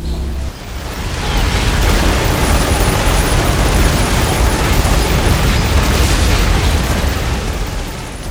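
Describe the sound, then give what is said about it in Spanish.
A loud, continuous industrial din of trains, motors, industry and factories, heavy in the low end with a dense roar across all pitches and a faint high whine. It stays steady throughout with no voices. “Vas a escuchar eso, ruidos de tren, de motores, de industrias, de fábricas, muchedumbre, ruidos, ruidos y más ruidos.”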